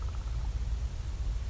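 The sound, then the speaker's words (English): A raven's short rolling trill, a quick run of pulsed notes at the start, sounding faint over a steady low rumble of wind or background noise. “There, that was a better sound of the trill.”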